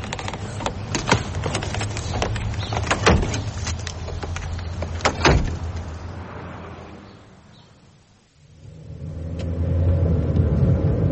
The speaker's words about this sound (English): Let's get into the car. I'll drive.